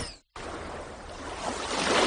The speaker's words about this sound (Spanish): ¿Lo escuchas? Es el mar reinventando tus platos.